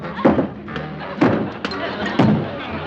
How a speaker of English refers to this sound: I'll have to get change out of the cash box. Now, let's see. What was that combination again? Oh, yeah. Two kicks and a back.